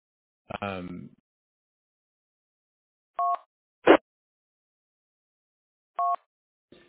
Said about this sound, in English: Those handful of bytes are transmitted over as audio tones over an FM radio channel.